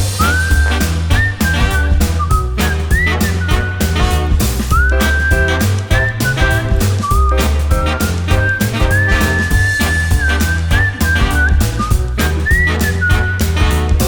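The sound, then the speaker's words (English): A human whistles a bright, sustained melody with gliding notes, carried prominently over a loud full-band backing of steady bass and drums, with no talking. “Whistle solo.”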